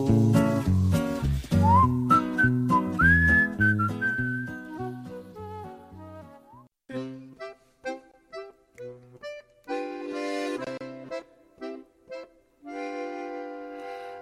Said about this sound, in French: Et je siffle en vain ce refrain, l'air qu'elle me sifflait dans son bain. Je siffle et j'en bave des ronds de chapeau, malheureux comme un russe au Congo.